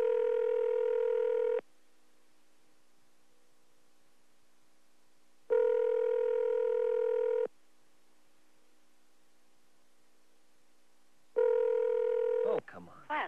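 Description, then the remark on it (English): A steady, buzzy telephone tone sounds in three separate bursts with silent gaps between them, and the last burst breaks into a quick flurry of short dialing beeps as a number is dialed to break in on a busy phone line. “I'm trying to do a break-in on a phone that's been busy for”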